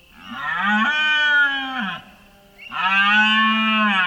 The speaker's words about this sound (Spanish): Se trata de los primeros bramidos que emiten los ciervos machos adultos como respuesta al inicio del celo de las hembras. Está a punto de empezar uno de los espectáculos de la naturaleza más asombrosos, la berrea de los ciervos,